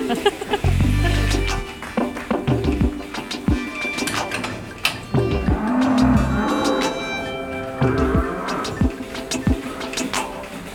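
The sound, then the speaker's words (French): Cows low repeatedly in a busy milking parlour, their deep moos rising over clanking metal, hissing machinery and general barn clatter, some louder than others. “On est toujours dans la salle de traite.”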